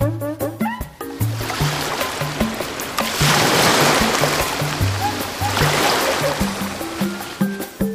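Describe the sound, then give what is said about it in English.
Waves of a big ocean, where a family swims and plays, wash in with broad hissing surges that swell and recede twice, playing over a steady, bouncy melody of plucked notes. No one speaks. “They swim and play in the big ocean.”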